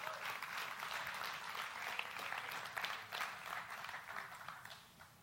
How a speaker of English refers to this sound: You're not clapping for me. Clap for Jesus. He is the one that is worthy.